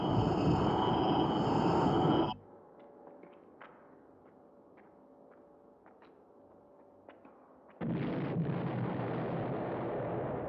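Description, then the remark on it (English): Two loud, rumbling surface explosion blasts, one at the start and one near the end, separated by a quieter stretch of faint crackles and scattered pops. No one speaks. “More surface explosions?”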